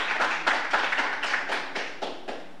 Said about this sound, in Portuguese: Uma calorosa salva de palmas ao excelentíssimo senhor